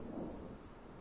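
Steady rain hisses while a low, rolling rumble of thunder swells briefly underneath, a continuous stormy wash with no voices, fairly soft, during a thunderstorm on a Saturday morning.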